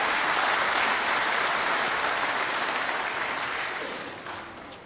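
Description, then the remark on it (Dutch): Steady applause from a crowd at a children's Christmas church service, for the children's singing and recited text: a dense crackle of many hands clapping together, holding loud before gradually thinning and fading toward the end. “Ja, applaus.”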